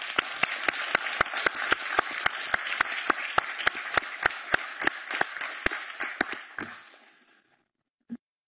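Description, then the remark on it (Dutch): A group of children cheer and clap after becoming official members of the children's council, in a steady, quick rhythm for about seven seconds, the noisy crowd sound fading out, followed by a single soft thump. “Juichen. Zo is het.”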